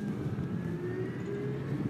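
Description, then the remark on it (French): A steady, thin electric whine from an electric scooter motor hums over low road and wind rumble while riding at 30 km/h in dense traffic in Paris, its pitch creeping slightly upward, continuous and fairly quiet throughout. “Vous entendez peut-être le petit woof électrique, mais c'est tout ce qu'on entend.”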